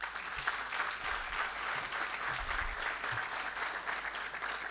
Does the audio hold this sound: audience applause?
yes